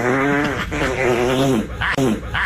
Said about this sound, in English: They found him because he farted. He couldn't hold it in.